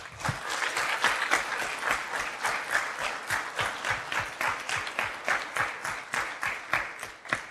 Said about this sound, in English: Look at what we've done here today. A round of applause, please, for everyone who shared a story.